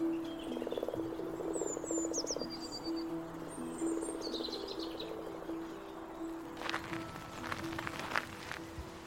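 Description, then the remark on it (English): Common songbirds sing close by at a spring: high, quick chirps and whistles sound intermittently over a steady, pulsing chorus of croaking frogs, with a burst of brighter, busier birdsong near the end. “Fairly common birds, but beautiful songbirds. And it's always a treat coming down here and having that song so close by as well.”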